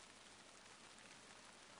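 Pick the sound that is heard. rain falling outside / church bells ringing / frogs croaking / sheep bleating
rain falling outside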